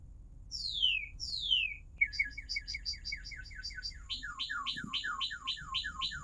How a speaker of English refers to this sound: Okay, does anyone know what songbird that was? Yes. Okay, cardinal. Right, and you know that's a cardinal because you've heard cardinals singing in your backyard and you're familiar with this species-specific song.